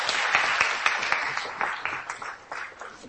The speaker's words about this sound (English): Excellent. Round of applause.